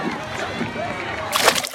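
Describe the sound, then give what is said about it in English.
A single sudden splash as someone falls into water, a bright, noisy burst near the end after a stretch of sloshing water, with a voice talking underneath. “Oh no, you fell into the water.”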